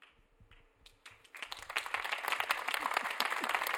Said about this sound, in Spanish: Y así, justamente con estos aplausos, estamos dándoles la bienvenida a nivel internacional.